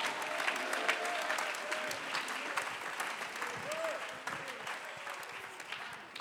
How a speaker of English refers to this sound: Somebody clap your hands in the sanctuary. Alguien aplaude sus manos aquí.